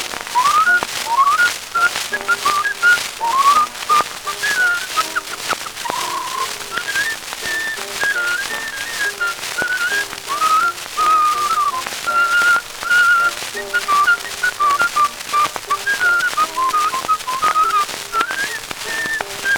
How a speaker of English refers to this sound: Drunk and broke, but he's happy when he whistles in tune.